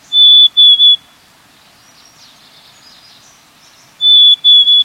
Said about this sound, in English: We're hearing the year-round sound of the black-capped chickadee. In spring, however, black-capped chickadees add a new vocalization to their repertoire, this soft Phoebe Bee.